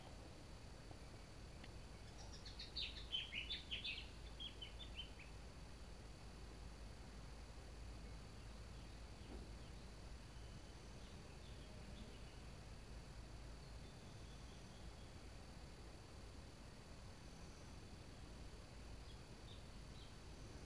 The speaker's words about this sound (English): And noticing that the bird song is one thing and the image of the bird is another thing.